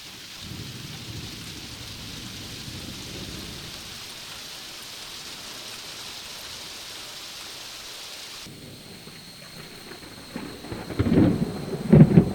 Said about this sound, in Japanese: 次は夕立と雷の集音です。